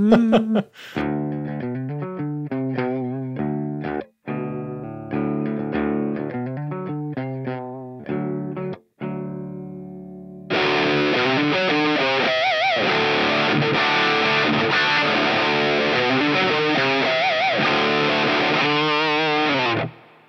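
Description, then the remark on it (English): Electric guitar through a Mad Professor Number One overdrive pedal with built-in hall reverb plays ringing notes and chords separated by brief pauses, then shifts to a thicker, louder, heavily saturated sustained passage. No one speaks. “It's got like this cool hall reverb on it, which is kind of neat.”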